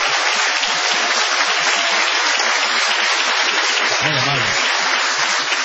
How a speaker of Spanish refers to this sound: El programa comienza con una ovación cerrada para honrar a Patricio Barton.